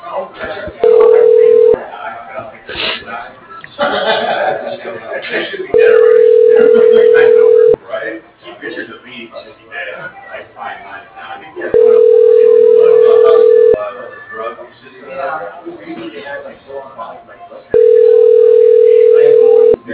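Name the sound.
telephone ringing tone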